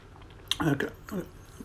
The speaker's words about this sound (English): Pardon for chewing. But this is my breakfast time.